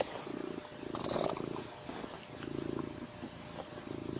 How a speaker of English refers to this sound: Purr for the camera.